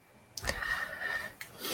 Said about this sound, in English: You there? I can hear you breathing. I can hear him breathing, but he's not saying anything. Why isn't he speaking? He is breathing and making noise, but he is not speaking.